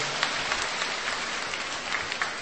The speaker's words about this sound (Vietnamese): Vâng, chúng ta cho một tràng pháo tay để gặp gỡ một người chị em.